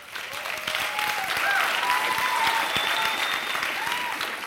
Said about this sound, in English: You're clapping for the wrong thing. That clap should really be for all of the women who continue to put up with the men in this room every day.